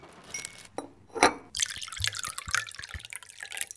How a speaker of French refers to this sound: Ensemble, ils regardent la pluie marteler les vitres de la fenêtre.